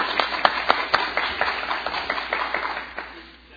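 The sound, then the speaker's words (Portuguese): People in a city council session applaud for the council's future president for 2015, a dense, steady patter of many hands clapping at moderate volume for a few seconds before it thins out and fades away. “Eu queria pedir às vereadoras uma salva de palmas para a nossa futura presidente do ano de 2015.”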